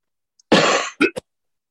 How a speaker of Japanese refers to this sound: あ、すいません。普通に咳しちゃった。今、ミュート全然押せなかった。ミュート押して咳しようとしたら、普通に咳しちゃった。ごめんなさいね。